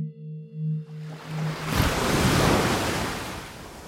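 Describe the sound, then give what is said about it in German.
A low, pulsing electronic hum gives way to the rushing roar of ocean surf as a wave breaks and washes in, then sustains as a steady, full hiss with no voices. “Niemand bestreitet, dass die Brandung des Meeres und der Strahl eines Wasserfalls die Luftsäule erzittern lassen und unser Gehör in Schwingungen versetzen.”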